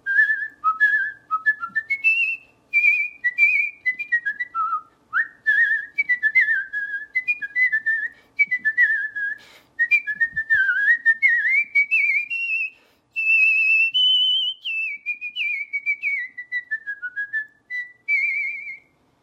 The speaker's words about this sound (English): So it's really fun to show people that you don't just have to whistle little tunes. You can actually whistle big, fancy orchestral things.